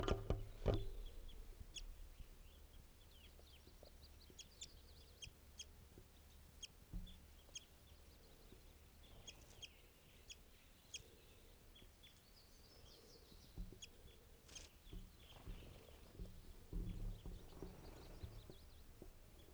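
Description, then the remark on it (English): Wild birds, at least four including a red male, call throughout: scattered short, high chirps and soft clucking notes from several birds, irregular and moderately quiet over a steady low rumble, with no one talking. “At least four birds here.”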